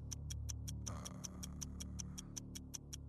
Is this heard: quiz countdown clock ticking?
yes